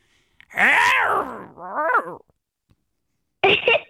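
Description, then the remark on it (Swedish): A person vocally imitates a lion's roar blended with a scream: a loud, drawn-out growling cry, a shorter wavering one, then after a pause a harsh, shrill burst. “Så lejon och ett skrik tillsammans, det blir ett lejonvrål.”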